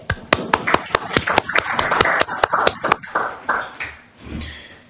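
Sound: audience applause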